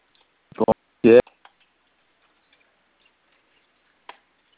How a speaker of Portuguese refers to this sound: Acho que o senhor está clicando em alguma tecla no telefone aí que está digitando o número.